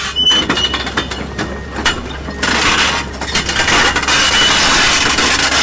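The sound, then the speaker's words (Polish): An excavator demolishing a building, the amphitheatre in Jarocin: dense crunching and cracking of debris over a steady low engine rumble, with scattered clinks and a harsher, louder grinding surge in the second half. “No, koparkę, która burzy po prostu i tyle.”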